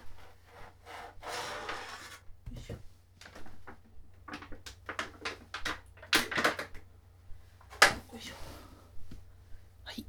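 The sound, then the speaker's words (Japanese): Plastic packaging crinkles and rustles in irregular bursts as a realistic phallus-shaped toy is unwrapped from its plastic case, with a few sharper crackles over a low, steady background hum. “音が、これで音がね、プラスチックだからさ、音割れすっと割れかな。”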